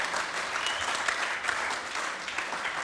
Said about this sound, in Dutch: Daarachter, weet je, die krijgen nog soms even te weinig eer, vind ik eigenlijk hoor. Voor het geluid, misschien kunnen we even een applaus geven.